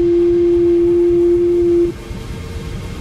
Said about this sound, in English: Built into the synthesizer are a number of oscillators. These oscillators produce sound electronically. Each oscillator produces a different kind of sound with a different wave form. This is a sine wave.